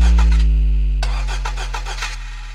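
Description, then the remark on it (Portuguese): A car engine turns over and catches, its deep steady rumble joined by a series of rhythmic, sputtering bursts as it runs up, loud with no voices. “Que meu carro só liga se você fazer chupeta.”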